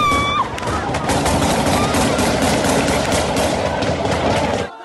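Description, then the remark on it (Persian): Rapid bursts of gunfire from the Taliban shooting into the air crackle continuously, shot after shot in quick volleys, loud, over a steady roar of crowd noise and shouting. “گلوله هایی که طالبان برای شنیده نشدن صدای حقیقت به آسمان روانه میکنند.”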